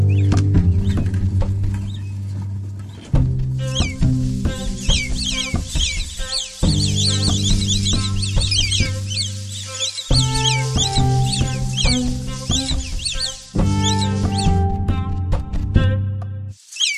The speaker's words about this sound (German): Ein Nacktmull zieht mit seinen Zähnen einen anderen Nacktmull am Schwanz eine Röhre entlang.